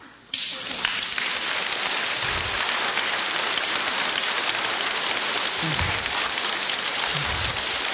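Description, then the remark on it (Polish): A crowd in Terliczka, Poland bursts into dense, steady applause after a brief moment of quiet, the clapping loud and even as it carries on without a break to the end. “Ale bardzo proszę, oklaski niech będą na końcu księdzu biskupowi, bo to przedłuża.”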